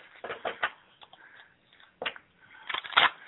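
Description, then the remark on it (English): Cards being shuffled: crisp, papery flicks and riffles come in irregular bursts, a few sharper snaps standing out over soft rustling, with no voices. “Can you hear me shuffling?”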